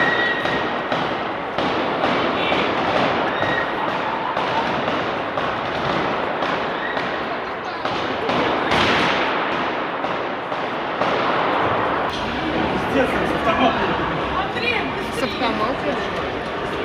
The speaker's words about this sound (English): Here's another angle of the panic as people start to hear gunshots, realizing what is happening.